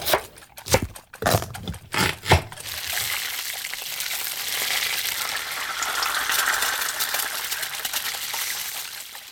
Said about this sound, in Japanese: ええ、生クリームを泡立てているわ。